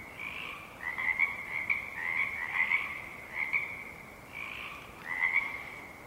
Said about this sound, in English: And as the darkness recedes, the frog chorus becomes quiet and intermittent. The first morning birdsong starts to fill the space left behind.